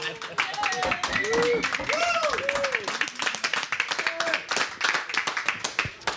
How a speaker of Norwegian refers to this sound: Liten applaus for det.